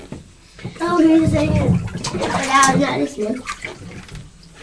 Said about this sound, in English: Right, so these little bits of soap now give you a wash, although I think you might have time you've been in the water and splashing around.